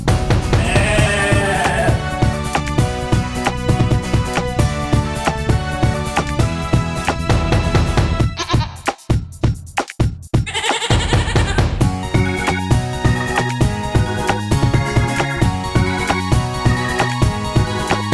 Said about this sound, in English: What is it? It's a goat. It's a goat.